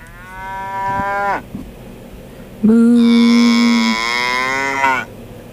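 Two long, loud moos from a cow, the first lasting over a second and dropping off, the second stronger and sustained for more than two seconds, with no talking.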